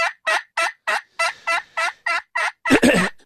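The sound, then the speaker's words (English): A run of about ten evenly spaced, raspy hen-like yelps played on a turkey call with an aluminum top and slate soundboard, fairly loud, the last couple longer and harsher. No talking. “And you're simply using what a hen would sound like? Yes. Those calls start with basically a yelp.”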